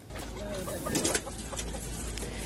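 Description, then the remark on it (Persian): Many chickens cluck together in a noisy, crowded space, their overlapping calls forming a steady din with a few louder bursts rising above the flock; about 1,000 chickens moved by charter flight from a farm in Iowa to a sanctuary in California, USA. “اخیراً 1000 مرغ خوشبخت توسط پرواز چارتری از یک فرمای ایالت ایووا به پناهگاه در ایالت کالیفرنیا ایالات متحده آمریکا انتقال یافتند.”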